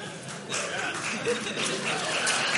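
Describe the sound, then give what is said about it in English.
A crowd claps during a Common Spirit presentation, a steady wash of dense hand-clapping that swells in after a brief moment and holds at an even level to the end, with faint voices mixed underneath. “So, noted. Applause. Noted.”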